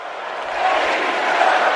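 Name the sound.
crowd cheering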